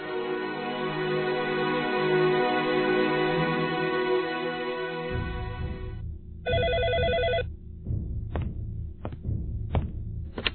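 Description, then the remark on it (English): A telephone rings steadily in an apartment with a harmonic electronic tone, fairly loud, over low background music, then a few sharp bursts and thuds follow near the end. “is home alone when the phone rings.”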